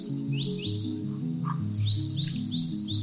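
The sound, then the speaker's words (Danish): Birds chirp and sing in quick, repeated high phrases, clear, over a steady low tonal hum that shifts pitch underneath throughout. “Jamen, vi har faktisk stadigvæk dinosaurer i dag. Okay, hvad er det for nogen? Med fugle.”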